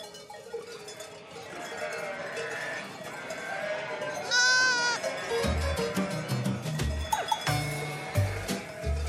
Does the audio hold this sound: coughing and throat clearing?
no